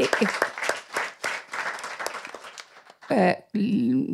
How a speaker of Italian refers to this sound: L'applauso lo riporto e non me lo prendo perché non è un merito mio.